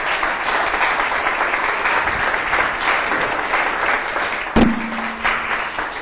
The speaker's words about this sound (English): Special round of applause for Jan. Round of applause for Jan.